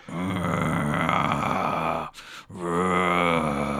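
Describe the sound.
A person imitates a dog with a loud, low, rasping growl, held for about two seconds, then a brief breathy pause before a second sustained growl.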